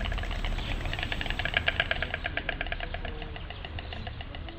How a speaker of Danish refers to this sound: Santiago rider i fugleham, og lyden af de klaprende næb kan antage en nærmest krigerisk klang.